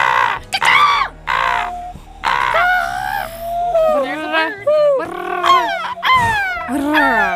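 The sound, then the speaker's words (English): Several people squawk, caw and whoop in overlapping voices for about 30 seconds, imitating bird calls with rising and falling glides. The mimicry is loud and continuous, with no real birds audible. “Right now, it's 30 seconds of bird noises, everybody.”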